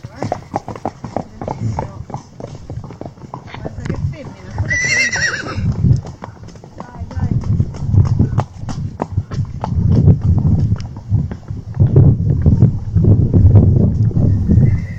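A horse lets out one shrill whinny while hooves clip-clop in a steady rhythm that carries on loudly throughout.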